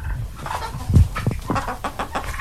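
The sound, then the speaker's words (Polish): Several chickens on a farm cluck in short, irregular bursts, their calls overlapping against a steady outdoor background with a few louder squawks. “Mamy tutaj kury, mamy indyki, pszczoły i ogromny ogród z bardzo dużą ilością warzyw i owoców.”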